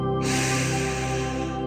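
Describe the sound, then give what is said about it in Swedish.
A deep breath drawn in through the nose, one of three deep breaths taken during a guided relaxation exercise, one long airy inhale that starts abruptly and holds steady, fairly loud, with a low steady hum beneath. “Andas in genom näsan”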